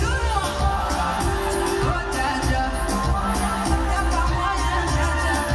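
A concert audience screams and cheers in a dense, loud, unbroken roar lasting the whole stretch, with occasional higher whoops and a low rumble beneath.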